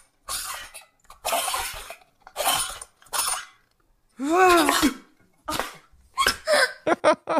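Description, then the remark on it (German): A voice imitates a blender spraying its contents with the lid off: a series of sharp, breathy bursts and sputters with a rising, wavering vocal whine in the middle, ending in quick choppy puffs. “Alles spritzt aus einem Mixer, weil der Deckel fehlt und ein Junge erschreckt sich.”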